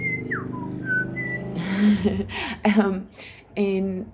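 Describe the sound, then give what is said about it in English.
A person whistles an imitation of a tui's call: a few short, pure notes and quick pitch slides, then a run of breathy, raspy and clicking vocal sounds mimicking the bird. “because we have a bird here called the tui. And it's a beautiful bird and has a beautiful whistle that goes.”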